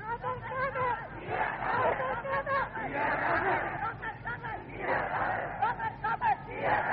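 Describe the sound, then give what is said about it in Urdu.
A large crowd shouts together in loud, rhythmic unison, voices rising and falling in repeated chant-like bursts that fill the whole space without pause. “بھائی نام کی بجائے میری بات توجہ سے سمجھو، جب میری بات سمجھ میں آ گئی تو پھر آپ کتنے مرضی نعرے لگائیں.”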